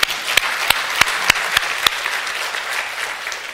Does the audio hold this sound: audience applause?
yes